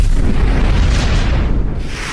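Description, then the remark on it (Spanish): A loud, rumbling explosion of an elephant that swelled up like a balloon roars through the whole moment, a dense, sustained blast of low booming noise that stays heavy before easing slightly at the end. No voices are present. “Explota.”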